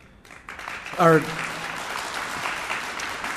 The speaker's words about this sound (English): And again, to our audience, if you could please hold off on the clapping until we take breaks and come back from breaks, I would appreciate it.